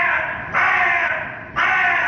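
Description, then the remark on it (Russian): A crow caws loudly, harsh repeated calls in steady succession, with two grating, drawn-out bursts standing out clearly, with no one speaking. “Ворона.”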